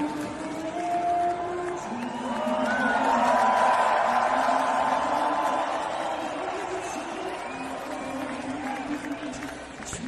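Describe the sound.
A large crowd of Canadian fans sings their national anthem at full voice in unison at an NHL ice hockey game between the Minnesota Wild and the Ottawa Senators, sustained melodic lines rising over a steady roar of arena noise that swells loudest midway through.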